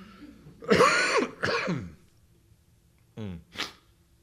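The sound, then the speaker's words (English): A person coughs and clears their throat: two harsh, loud bursts, then a pause and a couple of shorter, quieter rasping throat-clearing sounds. “I'm yelling at these men here, or I'm coughing at these men.”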